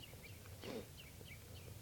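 Perched birds that had been giving alarm calls give short, high chitter notes, a scattered series of quick chips repeating every fraction of a second, fairly faint over a steady low background rumble, with no talking.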